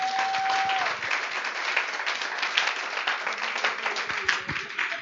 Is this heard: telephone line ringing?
no